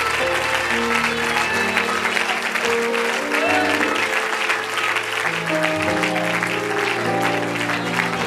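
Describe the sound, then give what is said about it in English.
A church audience claps their hands in praise to the Lord in a steady, dense wash of applause that lasts throughout, with sustained organ or keyboard chords held underneath. “Give your Lord a hand clap of praise tonight.”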